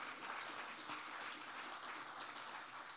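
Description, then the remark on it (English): An audience claps hands to thank the Lord during a sermon, a steady, dense wash of applause that holds at an even level for the full few seconds, with no voices standing out. “Would you clap your hands and thank the Lord for that?”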